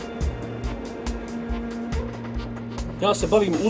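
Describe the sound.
Heavy mining trucks of the company Adriatic Metals come and go at a huge quarry, engines rumbling and droning steadily with a low mechanical hum and repeated thumps; voices briefly break in near the end.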